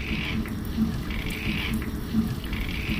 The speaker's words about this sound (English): As you can hear in the background, there are a lot of seagoing animals that actually make sounds, and this is one of them. These are snapping shrimp.